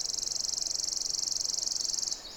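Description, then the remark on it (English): A chipping sparrow's dry, tight trill heard in a wild place: a long run of rapid, evenly spaced high notes on one pitch, steady and fairly loud, stopping abruptly after about two seconds. No voices. “That sort of, not really insect-like, but kind of a tight trill. Not very musical. It's a chipping sparrow.”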